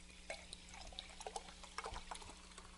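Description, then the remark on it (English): Cold Saratoga sparkling spring water pours quietly from a cobalt blue bottle into a glass, with soft splashing and small crackling fizz pops scattered throughout; fairly faint, with a low steady hum underneath and no talking. “oh, nice cold bottle of Saratoga sparkling spring water. I'm going to open it. Let's see if we hear a sound.”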